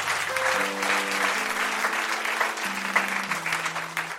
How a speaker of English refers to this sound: So just give him a round of applause.